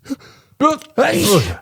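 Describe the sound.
A single loud sneeze: a quick gasping breath, a voiced 'ah' build-up, then a forceful, noisy burst that trails off.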